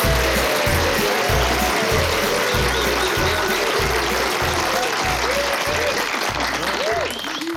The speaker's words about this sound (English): Good evening, ladies and gentlemen. That applause means so much to me.